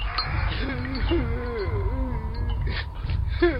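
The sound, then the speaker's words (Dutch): A Lapperdaan giant cries by a tent, a deep, wavering wail rising and falling in long sobbing moans for several seconds over a low rumbling background, ending with a sharper gasp-like cry. “Hij huilt, geloof ik.”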